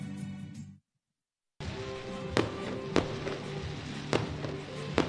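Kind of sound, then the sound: sound effect, fireworks going off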